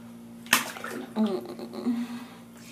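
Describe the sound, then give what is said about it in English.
A single sharp, wet slap on someone's buttocks rings out, followed by gentle sloshing, a few brief murmured vocal sounds and a steady low hum underneath. “You're slapping them like that.”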